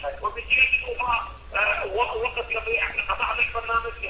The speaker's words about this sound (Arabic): لو سمحت وطي صوت التلفزيون.